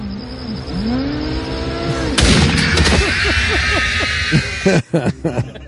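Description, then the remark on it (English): A movie shooting scene in which a loud gunshot cracks out at a rumbling bus, followed by a ringing hiss, with people talking and a few sharp thuds toward the end. “Gotta wait for the bus to come before he shoots it.”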